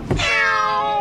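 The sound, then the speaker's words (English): A single drawn-out cat meow, fairly loud, with a sharp onset and a steady, slightly wavering tone that holds for about a second, used as a note of the cat piano in The Cat Piano and Torturetron from ABC RN's Soundproof. There is no talking. “This is effectively a twist on the cat piano”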